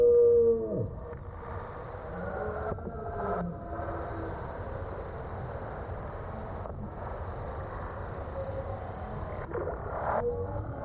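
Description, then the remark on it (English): A deep, drawn-out deer roar, heavily processed and echoing, swells into long moaning howls that carry on continuously for several seconds, loud and reverberant with no voices present. “And particularly, I think that sound of the roaring deer is one of those sounds.”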